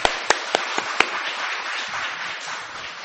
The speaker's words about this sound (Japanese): 大きな拍手を持ってこれから紹介をしたいと思います。